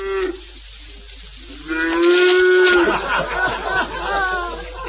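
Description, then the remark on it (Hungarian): A cow named Rizska moos: one brief low call, then a longer, drawn-out moo rising into a loud, rough close, with muffled noise and movement continuing afterward. “Hát még a tehénkém milyen szép dalt mond.”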